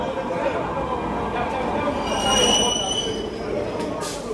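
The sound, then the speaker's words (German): A train rumbles steadily through the Plaza de Catalunya underground metro station at midnight while its wheels give off high, drawn-out metallic squeals, with faint voices murmuring in the echoing background. “Die Polizei drängt die Straßenhändler in die U-Bahn-Station. Die Männer warten unten bei den Gleisen.”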